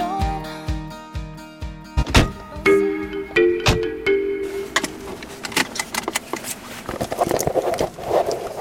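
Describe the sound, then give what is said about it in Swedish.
Two people get into a car to drive to a former workplace: a few sharp door clunks and clicks, a brief jingle of keys, and a short electronic chime, followed by shuffling and rustling as they settle in. “så sätter vi oss i bilen.”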